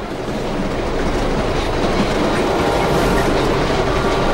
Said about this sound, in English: The train is moving faster, shaking more than it did.